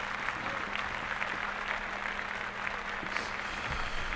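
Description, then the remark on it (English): A steady, moderately loud round of applause from a group, with many overlapping claps blending into a continuous crackling wash that lasts the full few seconds, no voices, given for an artist. “Let's all clap for … for keeping the hip hop.”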